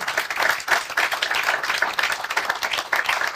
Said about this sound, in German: Ja, eine kleine Runde sitzt auch hier mit uns im Studio in Mainz, daher der Applaus, falls ihr euch im Stream wundert.